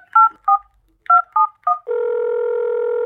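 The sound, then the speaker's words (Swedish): A prank phone call to an Ica store being dialed: five short two-tone telephone keypad beeps in an uneven rhythm, followed by a steady, continuous tone that holds to the end, loud, with no voices. “Nu ringer jag till bara Ica då.”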